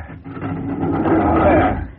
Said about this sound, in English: I always have trouble with this door when it's been raining.